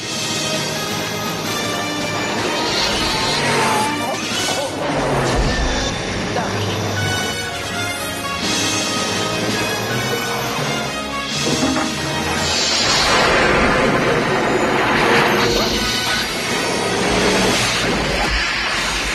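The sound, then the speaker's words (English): A loud, dramatic movie scene: a crackling crash of a lightning strike delivering power to a car bursts over a dense, swelling orchestral score, with voices shouting underneath, staying intense for the whole stretch. “See that moment in that clip where the lightning hits?”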